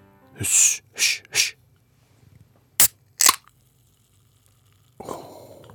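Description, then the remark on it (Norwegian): A can of Coca-Cola Energy being opened: three rustling scrapes, two sharp metallic clicks of the tab, then a burst of pressurized hiss that settles into a steady fizzing. No one speaks. “Åpning av boks med leskedrekk.”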